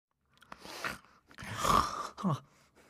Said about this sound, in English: … wakes up with a snore.